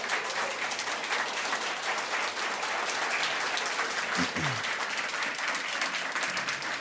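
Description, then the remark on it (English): Sustained applause from a large crowd at Grace Church after the announcement of the next senior pastor fills the whole stretch, a dense steady wash of many hands clapping at an even loudness, with a brief murmur of voices partway through. “This doesn't count for the clapping, but they just probably heard the same announcement either now or about to happen.”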